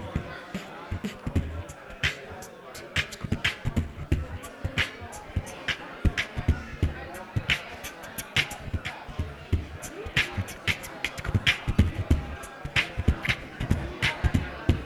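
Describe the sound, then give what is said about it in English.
A beatboxed rhythm of punchy mouth-made kicks and sharp vocal clap sounds made with a K sound, repeating steadily for the whole stretch with no spoken words. “So here's my clap, like a. So then we'll add that to my beat.”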